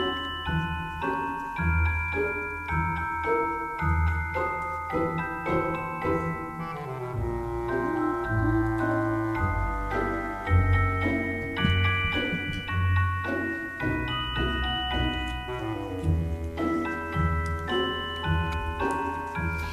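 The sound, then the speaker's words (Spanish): Orchestral ballet music, Tchaikovsky's Dance of the Sugar Plum Fairy from The Nutcracker, with bright tinkling bells over a steady ticking pulse and sustained wind lines carrying a dark, eerie melody, full and continuous with no voices. “Pero fijaos, la habéis escuchado muchas veces, pero fijaos ahora en las campanillas, en los vientos y en la melodía tétrica.”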